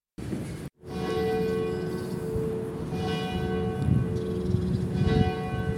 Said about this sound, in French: Les cloches sonnent 10h ce jeudi 11 décembre dans l'église Saint-Nicolas-des-Champs du 3e arrondissement de Paris.